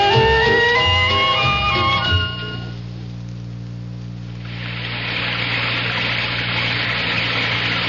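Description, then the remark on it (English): A raging torrent of flood water roars in as a steady, dense rush for the last few seconds, following a brief tonal musical passage and a low humming lull. “Sometimes a gentle rain in one place adds up to a raging torrent in another.”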